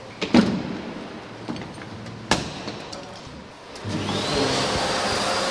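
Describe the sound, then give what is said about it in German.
A vacuum cleaner, secured with a rope while removing dust from high up, drones steadily, broken by a few sharp clicks and knocks, then its roar swells louder with a rising high-pitched whine near the end. “Und nachher nehmen wir den Sauger runter. Auch der Sauger wird gerade gesichert eigentlich.”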